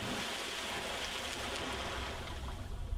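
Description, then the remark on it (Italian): Steady rushing of sea waves fills the whole stretch, a dense, continuous wash of water with no voices and no distinct splash standing out. “gridò il coccodrillo e senza aspettare lasciò tutto il carro cadere nel mare.”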